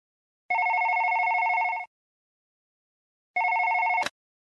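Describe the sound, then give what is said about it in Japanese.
A telephone rings twice with a steady electronic trill, the second ring cut short by a click as it's picked up. The rings are clear and close, with silence between them and no voices. “じゃあ、渡辺さんに時間を聞いて電話しますね。”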